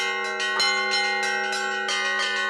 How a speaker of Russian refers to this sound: Храм без прихожан пустует, лишь звон доносится из колокольни собора.